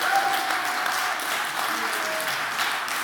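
A church audience applauds steadily, a dense, even wash of many hands clapping at a consistent loudness throughout, with no speech over it, after hearing that the drive-through food pantry served 37,229 people in 2025.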